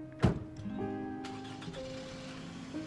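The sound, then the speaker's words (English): A sharp thump like a car door, then an engine turns over and settles into a steady hum that shifts in pitch as the car pulls away. “Chris watches the car go.”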